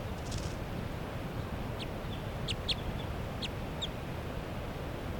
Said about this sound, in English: A little bit of foliage, wild bird perched right next to Forty's cage. It's a very light-colored bird, female, I think. And that's her. She's calling in response to bird 3 at 7.